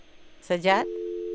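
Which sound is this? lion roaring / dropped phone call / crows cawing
dropped phone call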